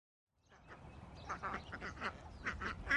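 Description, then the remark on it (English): A flock of runner ducks, kept for eggs by an urban permaculture family in Indianapolis, quacking in a rapid, overlapping chorus, growing louder, with repeated nasal calls over a low rumble of outdoor background noise. “These ducks don't really like me pointing my microphone at them. They're really cute, incredibly funny, because they're the runner ducks, the long ones, you know, like bottles.”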